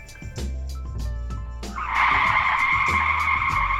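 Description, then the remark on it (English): Car tires skid with a loud, sustained high-pitched squeal that builds midway and holds to the end, over a low engine rumble and some clattering noise. “Learn how to handle a car in a skid.”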